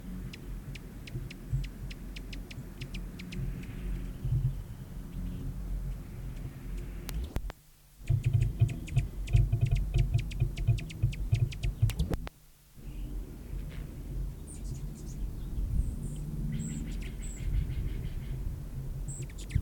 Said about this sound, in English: Elasphorus foraging on Nicotiana glauca, and chatters in the background, several birds involved in the chatters.